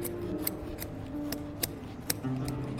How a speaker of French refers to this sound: Et une fois qu'on a fait ça, donc, on utilise des ciseaux qui sont courbes. Et ensuite, on coupe.